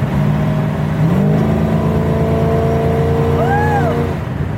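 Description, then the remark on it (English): A GTO's V8 engine pulls hard in high gear under throttle, its deep steady rumble holding loud with a rising whine layered on top, no voices over it. “See, that's just high gear giving it gas, so...”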